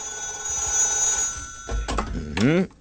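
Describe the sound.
A telephone rings with a steady, sustained electronic tone for over a second as a listener calls in to Studio 3 of the radio show Musik för män, then someone starts talking as the ringing fades.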